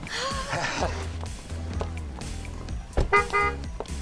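A car rolls up and comes to a halt at the front entrance of a school, its low engine rumble steady underneath a busy mix of other sounds, with a brief horn-like tone near the end.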